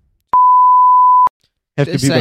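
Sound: censor beep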